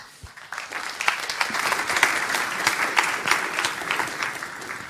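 Steady applause from an audience, a dense patter of many hands clapping at an even, moderately loud level for several seconds without any talking.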